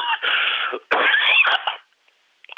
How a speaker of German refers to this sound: Entschuldigen Sie, ich muss nur husten.